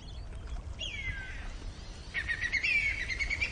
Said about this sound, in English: And there's the whistling kite. It's come. Did you hear that?